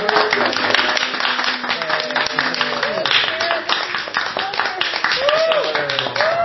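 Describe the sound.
A crowd claps steadily for several seconds in a dense, even round of applause, with voices calling out and talking over it throughout.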